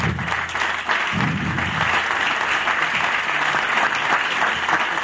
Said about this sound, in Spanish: Per tant, rebem inicialment així el candidat de Compromís, Pere Fuset, per favor. Un aplaudiment també.